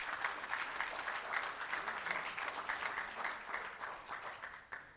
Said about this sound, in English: So I think we should give a big applause to the 27 national winners.